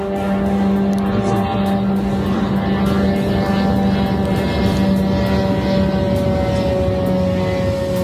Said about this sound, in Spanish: Y en Abu Dhabi, el característico sonido de los drones iraníes Shahed, que son bien conocidos de los combatientes en Ucrania, se ha dejado sentir por toda la ciudad.